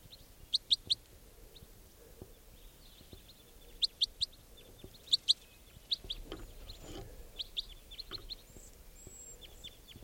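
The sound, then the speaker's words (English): A young bird gives high, sharp chirping calls in short bursts of two or three notes, repeated irregularly over a low background hum, with some fainter overlapping calls. “There's one of the birds captured that sounds just like it.”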